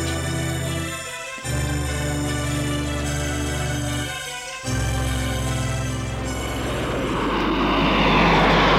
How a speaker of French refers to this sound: Maurice va à Lyon en avion privé. Son avion privé va atterrir à l'aéroport de Saint-Olas.